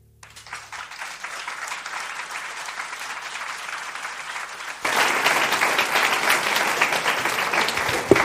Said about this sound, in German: Ja, Herr Jesus, und dieser Applaus soll dir gelten, dass du uns diesen Ruf gibst.